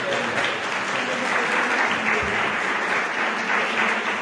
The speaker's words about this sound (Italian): Bene, allora ringraziamo il professor Mazzinghi, veramente facciamo un altro applauso.